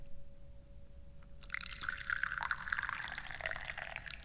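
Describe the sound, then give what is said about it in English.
Tea is poured into a cup after a brief quiet moment. A steady splashing stream runs for a few seconds, its pitch creeping slightly higher as the cup fills. “I'm your chairman, and I am also, knocking things over and pouring some tea.”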